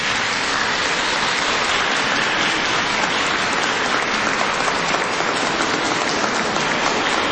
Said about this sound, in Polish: Bardzo gorąco i serdecznie witamy i pozdrawiamy całą rodzinę Radia Maryja, która łączy się teraz z nami, a nasze pozdrowienia przekażemy poprzez gorące oklaski. Niech płyną w różne zakątki naszej ojczyzny i całego świata. Gorąco oklaski!